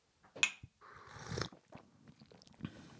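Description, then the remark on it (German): Wet slurping from a cup of tea during a tea tasting: a sharp sip followed by a longer drawn-in slurp, then quieter mouth and swallowing noises, with no one talking. “Gut schlürf. Prost, ne? Gut schlürf.”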